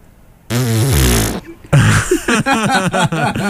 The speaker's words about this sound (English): Pupils, assume position. Ichi! Pupils all shift into a similar position and all fart as they do so.